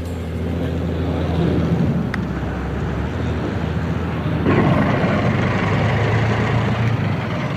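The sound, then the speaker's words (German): A vintage car's engine rumbles steadily, a low droning idle that grows a bit louder and rougher about halfway through, with no one speaking over it; the car is heading to a car race at Twin Oaks. “George saß stolz auf der Rückbank des Oldtimers, während Quentin und Martin auf den beiden Vordersitzen thronten.”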